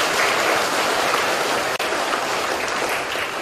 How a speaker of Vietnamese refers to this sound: Cho nên mở đầu thời pháp thoại, sư có một lời tán thán các em, cho một tràng pháo tay khen ngợi.